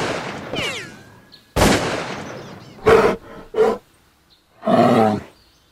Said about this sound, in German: Oh, ein Schadbär. Problembär. Nein, ein Problembär.